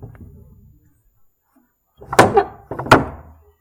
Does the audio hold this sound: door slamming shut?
yes